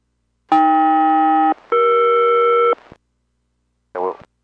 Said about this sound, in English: And Boeing Everett, Boeing 201 Heavy, another radio check, standing by for chimes of cell call. Boeing Everett, at you loud and clear, cell call follows.